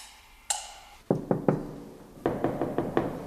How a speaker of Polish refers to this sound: A jest jakiś kontakt z tymi mieszkańcami? Bo ja pukałem, ale nikt nie otwiera.